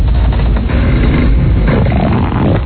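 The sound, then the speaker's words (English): A long, loud recorded fart played on air on a radio show plays alone, a sustained low, buzzy rumble that sputters unevenly for nearly three seconds with a muffled, band-limited tone. “That is a good one. Very unique. A very nice fart.”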